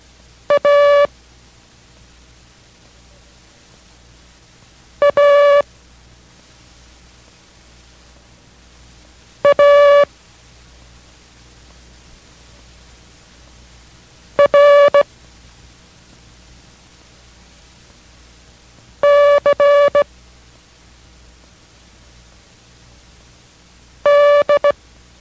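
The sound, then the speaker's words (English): Six Morse code characters, A, A, A, R, C, D (Abel, Abel, Abel, Roger, Charlie, Dog), are sent as short bursts of a buzzy, mid-pitched tone, one roughly every five seconds, over a steady background hiss with no voices. “Those characters were Abel, Abel, Abel, Roger, Charlie, and Dog.”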